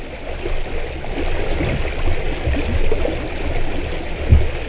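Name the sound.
flowing river water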